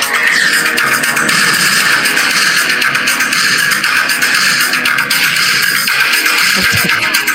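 An 80s rock song from the film Bloodsport plays loud and steady for the whole stretch: a dense, bright wall of distorted guitars and cymbals pushing on without a break.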